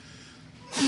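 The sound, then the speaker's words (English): A single abrupt sneeze bursts out after a brief hush, loud and breathy, cut off at the end with no one speaking. “Bless you.”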